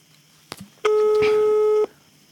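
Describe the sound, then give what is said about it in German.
One steady, slightly buzzy ringback tone sounds through a phone line for about a second, preceded by a faint click, heard alone and at moderate loudness. “Das nächste Freizeichen. Es klingelt.”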